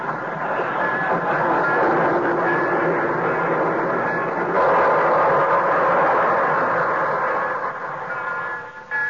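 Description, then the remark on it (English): The Torontoan train pulls into a station on track 6, its loud, steady rumble and hissing clatter filling the whole stretch, shifting slightly midway as it rolls in. “So try Johnson's liquid wax from Racine, Wisconsin, and Brantford, Canada, where the Torontoan is just pulling in from, on track 6.”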